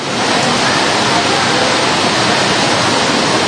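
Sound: rain falling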